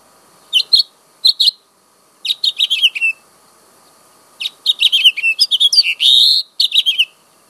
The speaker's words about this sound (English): Okay, that was the house finch.